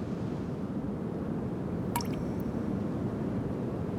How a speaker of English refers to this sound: Another drop of rain, and then another.